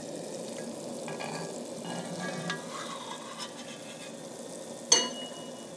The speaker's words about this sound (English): You can hear that boiling away.